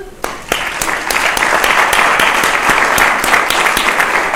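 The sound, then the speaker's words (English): A crowd at a medical school applauds supportive faculty, many hands clapping in a dense, even patter that starts abruptly and holds at a loud, constant level throughout. “and so I'd like to take a moment just to give them a round of applause.”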